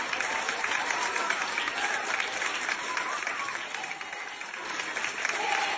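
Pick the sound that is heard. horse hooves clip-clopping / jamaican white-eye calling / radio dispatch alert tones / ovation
ovation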